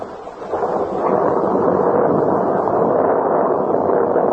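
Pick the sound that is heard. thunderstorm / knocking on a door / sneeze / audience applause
thunderstorm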